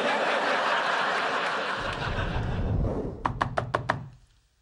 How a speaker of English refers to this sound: Leonard knocks at Penny's door.